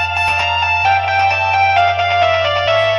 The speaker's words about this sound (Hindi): हां कहीं मोबाइल ये हमर बजे थे का हो। अयो मैया उ तो खटियावा पे है।